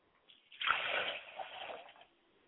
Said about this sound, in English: As I set a glass of water aside for my father, I like to say, Ashe, Father. I like to pour a glass of water for my mother's spirit, and I say, Ashe.